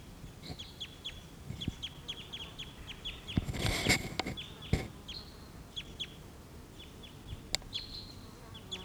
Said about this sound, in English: Here's a bird.